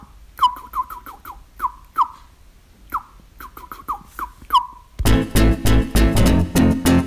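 Wild birds call in a quick series of sharp, downward-sliding chirps, about a dozen in five seconds, before a loud, dense wash of other sound takes over.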